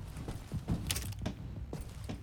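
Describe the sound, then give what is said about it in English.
A metal door handle on a locked door is jiggled and rattled several times in quick, uneven bursts, clicking and creaking against a latch that doesn't give. Moderately loud, with no voices. “Door's locked.”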